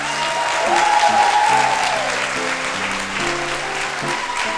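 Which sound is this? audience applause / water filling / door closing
audience applause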